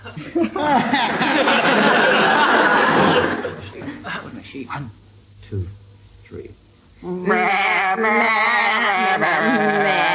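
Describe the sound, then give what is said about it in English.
Two teams of people sing a tune in a wavering, bleating sheep-like warble, first loud and crowded, then a brief lull with scattered sounds, before the bleating singing returns strongly. Human voices imitate the sheep. “I want you to give them an animal to sing it in. Which is sheep.”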